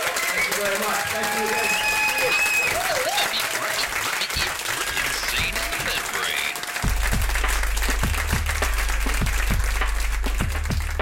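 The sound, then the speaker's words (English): A live audience breaks into loud, sustained applause for Richard Gadd, a dense wash of many hands clapping with some cheering voices mixed in. Toward the end, a low steady tone sounds beneath the clapping. “Richard Gadd, round of applause for Richard Gadd.”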